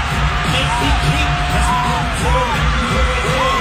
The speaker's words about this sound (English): I mean, you hear the crowd. Oh, they went nuts.